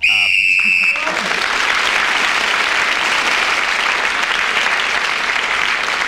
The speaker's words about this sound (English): Well, Peter Jones was then speaking when the whistle went, and he gained the extra point and increased the position that he had.